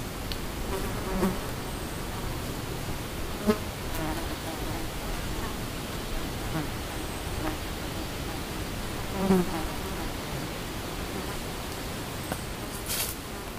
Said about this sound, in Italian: Camminando all'ombra dei faggi e delle querce si è in compagnia perenne. Girano mosche, tante, ma anche vespe e qualche bombo. Intorno è un ronzio delicato che fa girare la testa.